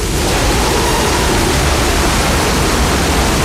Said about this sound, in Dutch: Ja, dat is wel hard, hè? Ja, dat is, ik zet de deur maar gauw dicht. Huppakee. Wat een wind, jongens.